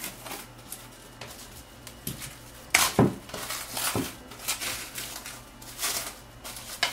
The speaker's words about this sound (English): For the rest of the plants, I like to go in with my plastic food wrap and just wrap it up.